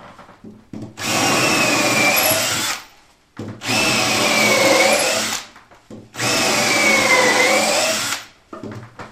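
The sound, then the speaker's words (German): An electric drill bores a few medium-sized holes in three sustained bursts of about two seconds each, loud, its motor pitch dipping under load and separated by short pauses. “Das waren jetzt ein paar dünne Löcher, jetzt kommen ein paar mittlere Löcher.”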